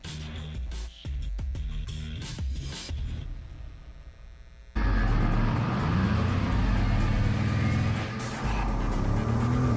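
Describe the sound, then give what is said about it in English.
A Bugatti Veyron Super Sport car engine at high speed, around 268 miles per hour: a low, steady mechanical hum gives way midway to a sudden, loud, sustained roar that stays intense until the end, with no talking. “At 268 miles per hour, 5 minutes, you can get a long ways away.”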